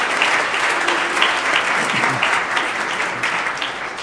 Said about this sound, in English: I would like you to applaud that group.